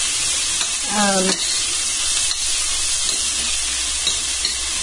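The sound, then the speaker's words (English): Onions just added to hot oil sizzle steadily, a loud, dense crackling hiss filling the whole clip, with a brief low voiced murmur near the start. “I just added the onions. That's why we've got all this, like, super sizzle going on.”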